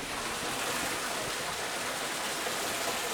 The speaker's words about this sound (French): c'est la première fois qu'on rentre dans un moulin avec un toit, avec un sol et même avec une rivière qui passe en dessous et qu'on entend.